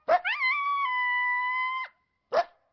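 An exhausted dog lying fallen in soft snow lets out one long, mournful howl that rises and then holds a steady pitch, bracketed by short sharp yelps just before and after, as a long convoy of sleds passes by. Fairly loud, with no talking.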